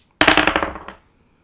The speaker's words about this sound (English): All right, I'm going to roll two dice. Eight.